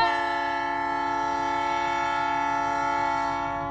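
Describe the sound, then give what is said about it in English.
A loud, sustained train horn blares as one steady chord for several seconds, with a faint rail rumble beneath and no voices. “Can I take a train? Hint, hint.”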